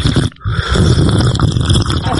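Loud, drawn-out slurping of soup, a wet, noisy sucking that breaks off briefly at the start and then carries on steadily with rough, gurgling texture for about two seconds.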